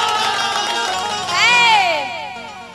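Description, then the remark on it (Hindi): A crowd roars with cheers and shouts in the name of Gopalganj, a rising and falling whoop standing out midway, over a dense, loud wash of audience noise throughout. “आ जो हमारा गोपालगंज के नाम पर ताली न बजाए उसके हाथ में खुजली हो जाए।”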